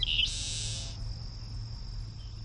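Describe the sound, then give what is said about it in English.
A few thin chip notes lead into a dry, buzzy trill from several Cape Sable sparrows, an endangered species, calling at 7:30 in the morning just after sunrise, fairly clear, over a steady high insect drone and low background rumble. “And off to my right, we can hear several Cape Sable sparrows calling.”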